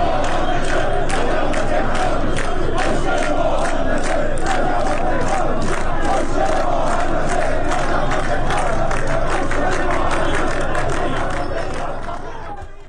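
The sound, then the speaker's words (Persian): A large crowd of fire service workers protesting in Tehran over livelihood and housing chants slogans in unison, loud and sustained, with rhythmic rising shouts repeating throughout before the noise tapers off slightly at the end. “آنها از جمله شعار دادند معیشت مناسب حق مسلم ماست و خسته ایم از وعده و دروغ، نه از آتش و دود.”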